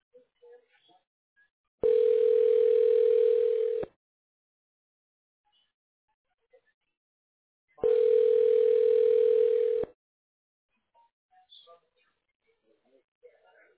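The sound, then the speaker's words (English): A telephone ringback tone on a call: two steady, loud two-second buzzing rings separated by a few seconds of near silence, with faint scattered noises in the gaps. “It's ringing.”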